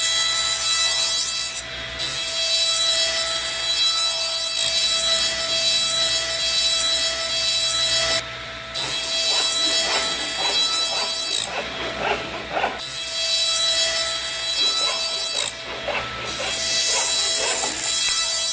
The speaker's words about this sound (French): participant aux tâches collectives, les équipes de paroissiens se relaient pour scier les faillards et empiler les bûches qui serviront à chauffer l'église.